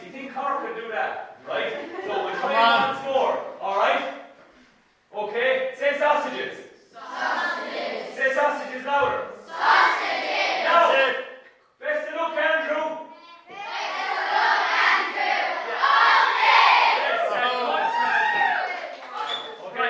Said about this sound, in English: Up Tip, and now a big cheer for Up Tip. Yes, let's do a practice. 3, 2, 1.